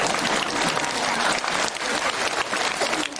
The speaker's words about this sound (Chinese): 好了，坐下来了，人家鼓掌叫你下来了。